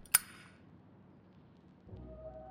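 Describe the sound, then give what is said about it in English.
An old Zippo lighter belonging to the speaker's father flicks open with one sharp metallic click and a short bright ring, followed by quiet low rumble; near the end a steady low hum with a faint tone starts up. “and the unmistakable sound of my old man's Zippo lighter with its click and its ring and its snap.”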